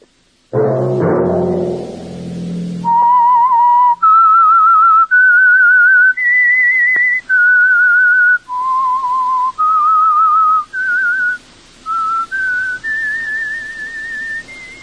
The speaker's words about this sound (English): Let that whistle be your signal for the Signal Oil program, The Whistler, each Monday at 9.